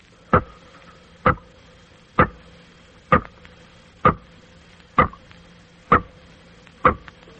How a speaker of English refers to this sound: Here is some water dropping into a small tank as its sound is picked up by an ordinary studio microphone. Now we will let you hear those same water drops as they sound when magnified a few million times by an electrical sound microscope.